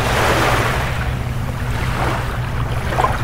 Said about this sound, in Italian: Senti che bello, le onde del Mar Tirreno che bagnano le coste napoletane. Senti che bello.